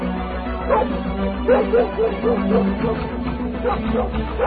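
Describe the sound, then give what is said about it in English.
A female dog barks and yips excitedly in a quick, steady series of short calls as it picks up a scent, over a low constant rumble in the background. “The dog's got a scent.”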